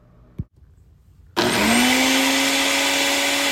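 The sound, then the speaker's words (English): A short click, then a blender roars to life as Austin Mark, UD's Director of Nutrition Performance, mixes his own daily drink concoction, its loud steady motor whir rising slightly in pitch as it spins up and running without pause to the end. “Austin Mark whips up his own concoction daily.”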